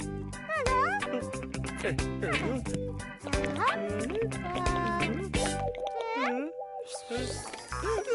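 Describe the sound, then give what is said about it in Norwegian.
Water pours in a steady stream onto dish soap, making soapy water, with bubbly, dripping liquid sounds, fairly loud, over bright playful music with sliding tones. “Og litt vann.”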